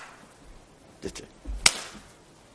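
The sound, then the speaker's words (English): A sharp, crisp slap of a hand rings out once, loud, preceded by a softer smack about half a second earlier, with quiet background noise around them. “To buffet me. To slap me with a hand. Slap me.”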